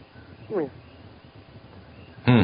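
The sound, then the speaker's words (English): Coquí frogs chirp against a soft, steady jungle hiss: one fainter sweeping call early on, then a louder, sharper chirp right at the end. “And I hear birds singing in the background. Yeah, it's the Kokies over here.”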